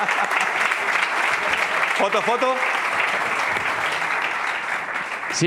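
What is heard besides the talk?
audience applause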